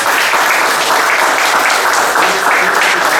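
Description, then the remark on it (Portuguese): A crowd applauds the groups of girls who presented, a dense, continuous wash of many hands clapping at once, loud throughout with no pauses or voices standing out. “Vamos bater uma salva de palmas aqui para as meninas.”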